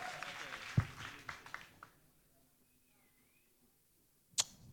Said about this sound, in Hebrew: חבר'ה, הרבה זמן פה לא נתנו מחיאות כפיים.